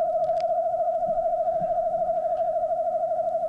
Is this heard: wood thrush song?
yes